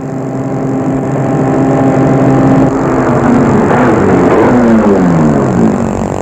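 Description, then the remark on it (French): A car engine rumbles loudly, holding a steady drone before its pitch sweeps and drops as the car slows to stop in a courtyard, the motor still running at the end. “Il va arrêter sa voiture dans la cour.”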